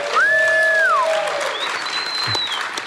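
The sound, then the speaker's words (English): Steady applause from a crowd during a radio show fills the whole stretch, loud and continuous, with a couple of bright sliding whistle tones ringing above the clapping. “Everybody clap it up”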